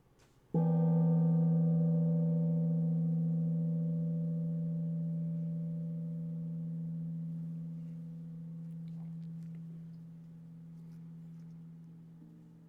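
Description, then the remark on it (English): A single meditation gong strikes once to signal the beginning of formal meditation, then rings on with a deep, steady hum and shimmering overtones, slowly fading but still sustaining for over ten seconds, alone without any voices. “The sound of the gong signals the beginning of formal meditation.”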